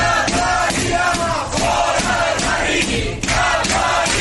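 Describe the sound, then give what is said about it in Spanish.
About fifty activists entrenched inside a building's doorway during an eviction shout the slogan "ningún vecino fuera del barrio" while Mossos police try to get in, in loud, continuous rhythmic chanting, voices overlapping in rising and falling bursts with no pause throughout. “Una cincuentena de activistas se han atrincherado además en el interior del portal con gritos de ningún vecino fuera del barrio mientras los Mossos intentaban acceder.”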